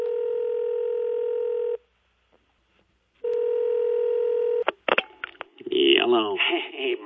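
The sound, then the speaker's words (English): Two long, steady ringback tones separated by a silent pause, then a sharp click as the line picks up and a man's voice begins speaking over the phone connection. “Maybe on the way, maybe from Gay Paris, he had time to make a phone call.”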